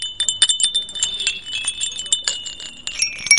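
Small ceramic bells jingle and clink continuously, a cluster of bright, high-pitched chimes struck in quick irregular succession, with ringing tones that linger and overlap throughout.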